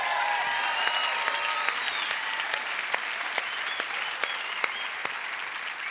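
A crowd applauds the band at the E-Town show, steadily, a dense wash of clapping with occasional sharper individual claps standing out, sustained at an even, fairly loud level with no talking over it.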